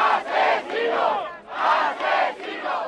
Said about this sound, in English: Anti-abortion protesters screamed murderer at anyone going in and out of ruling party headquarters this week.